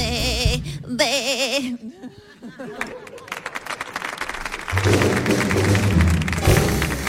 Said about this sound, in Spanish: Fuerte el aplauso para Carlos Granadero y para Lucy Paradise